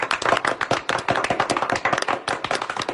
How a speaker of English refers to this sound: Round of applause for those of you.